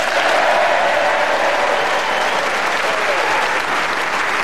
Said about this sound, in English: It just shows the generosity of the Yorkshire people, you know, a lassie from Lancashire, and they applaud her to the ceiling for winning the game.